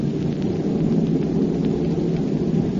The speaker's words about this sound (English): The bomb bay is opening, that's why. You opened it? Sure, as soon as we took off. Hang on, you'll see why. Pilot to crew, I'm releasing bombs.